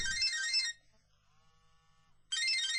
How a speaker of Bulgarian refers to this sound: Моя телефон. Ало?